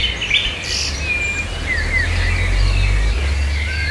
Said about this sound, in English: Patricia Davidson sent in this mourning bird that she was having trouble identifying. She took this recording in Frankston, Victoria.